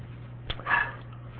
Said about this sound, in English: can you hear the dog? I mean, I'm just kind of like, why does that dog have to be barking? I think he's outside wanting to come in and nobody's there to let him in, I guess.